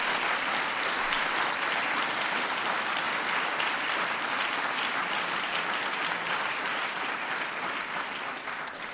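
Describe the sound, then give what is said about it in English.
Steady, sustained applause from an audience, a dense wash of many hands clapping at an even loudness for the full length, with no voices rising above it. “Today we're announcing that our many partners will invest an additional $28 million towards increasing the number of STEM teachers in the classroom across the country, and that's worthy of applause.”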